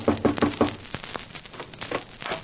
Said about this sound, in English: I hurried down as they knocked on my door.